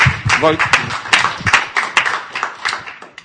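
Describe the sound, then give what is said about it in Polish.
A crowd claps steadily for a few seconds for award nominees, a dense patter of hand claps that stays fairly even throughout, with a voice briefly heard over the applause near the start. “Znaczy, żeby im brawa dać, tak.”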